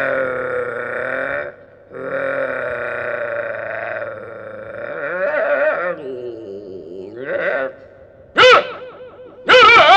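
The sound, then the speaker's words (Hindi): A voice imitates a dog pouncing on a cat: drawn-out growling and snarling vocal sounds, followed near the end by two sharp, loud bark-like bursts. “अच्छा, जब कुत्ता झपटा, जानती हो कैसे झपटा? कैसे झपटा?”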